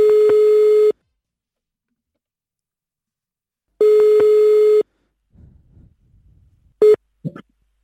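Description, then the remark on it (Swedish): Two long, steady telephone ringback tones with a pause between them, loud and clear, followed by a short click and faint handling noise as the call connects; an outgoing call to a hairdresser in Karlstad, Sweden, to book a haircut. “Idag så ska vi lyssna in hur det låter då när Benjamin Ingrosso ringer till Karlstad”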